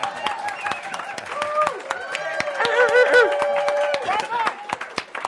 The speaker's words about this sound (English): Cheer, applause.